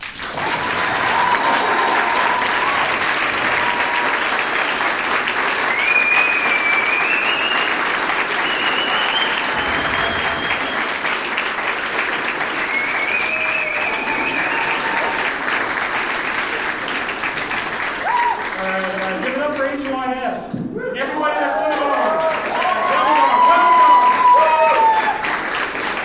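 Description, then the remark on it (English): Sustained audience applause for a speaker leaving the stage, a dense steady wash of clapping lasting the whole stretch, with scattered whoops and cheers rising near the end. “Okay, now it's time for good applause.”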